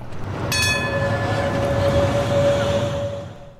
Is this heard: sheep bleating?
no